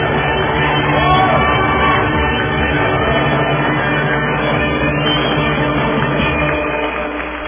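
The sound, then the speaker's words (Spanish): A large crowd applauds and cheers for a toast vendor who became a business administration graduate, in a dense, steady roar of clapping and voices that holds at an even, loud level throughout, easing off only slightly at the very end. “Démosle el himno y la alegría del maestro Beethoven y los aplausos a este vendedor de tostadas que ahora es un licenciado en administración de empresas, y ojalá tenga éxito en su vida.”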